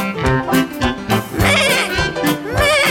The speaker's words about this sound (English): What is it? Meh! Meh! It's a goat.